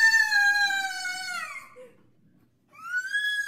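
A girl in a homemade video lets out a long, shrill scream that slides downward in pitch and trails off, then after a short silence launches into another loud, high-pitched scream.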